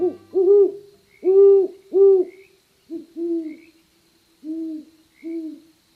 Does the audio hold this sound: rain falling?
no